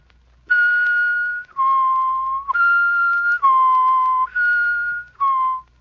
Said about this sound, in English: Now say la, la, la. Notice how your tongue moves up and down. Do it slowly, and then add your whistle.